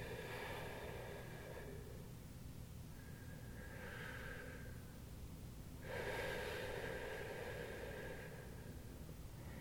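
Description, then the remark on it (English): Slow breathing with no talking during a guided breathing exercise: a few long, airy breaths, each a strained, hissing pull of air taken with effort followed by a softer, unhurried release, repeating in a steady rhythm. “As you pull in air with effort, and let it out in its own volition.”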